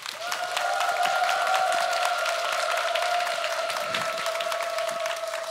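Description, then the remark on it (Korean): An audience at a mini concert claps steadily and densely for several seconds, a warm wall of applause welcoming the next performance, with a faint sustained tone humming beneath it. “이름을 묵상하려는 어떤 곡을 선곡해 주셨을까 궁금한데 여러분 큰 박수로 다음 무대 맞이해 주시기 바라겠습니다.”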